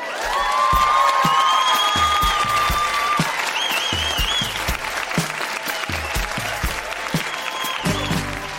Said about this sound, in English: That has been Grown-Ups Read Things They Wrote as Kids Winnipeg. Huge round of applause for all of the readers.